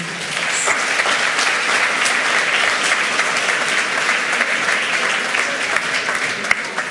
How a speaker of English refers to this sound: Let's start. A warm applause for the presenters.